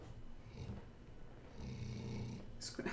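Low, rumbling snoring in soft, drawn-out breaths, fairly quiet, ending with a brief airy hiss.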